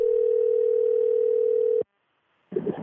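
A steady, unbroken telephone dial tone of an outgoing call to an aunt hums at a constant mid pitch for almost two seconds, cuts off abruptly into silence, then a burst of line noise and clicks follows.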